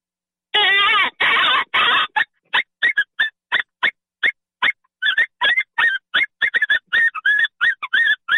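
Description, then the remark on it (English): A predator mouth call blown in loud, harsh rabbit distress squeals for calling foxes: two long wailing cries, then a rapid series of short, sharp squeaks repeating in an uneven rhythm, piercing with no talking. “On a mouth call, I love mouth calls for foxes. So I can open read. I can do this.”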